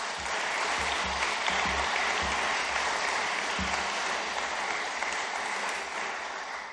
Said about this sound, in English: And a round of applause